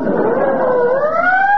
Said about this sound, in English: Oh, pardon me. There goes another ambulance.